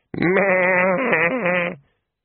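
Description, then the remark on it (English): A single drawn-out, fairly loud bleat from an old sheep being sheared, with a wavering, quavering tone lasting under two seconds before cutting off into silence. “The sheep wasn't even trying to struggle.”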